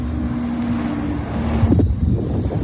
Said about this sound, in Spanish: ese era el momento en el que las cámaras recogían la llegada de Gerard Piqué montado en ese coche